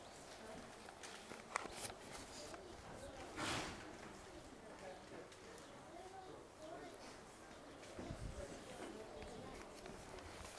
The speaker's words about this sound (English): Our first horse here today at the Hall of Champions is our only thoroughbred stallion. This is Bolt Forbes. Bolt Forbes is a dark bay or brown stallion, and he was foaled in 1973.